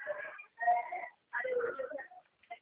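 A baby cries in several wavering, high-pitched bursts with brief pauses between, moderately loud, ending in a few short whimpers.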